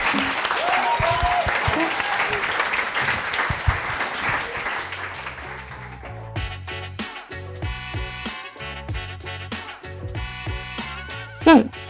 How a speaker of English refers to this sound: Thank you very much for coming. I would like to clap you.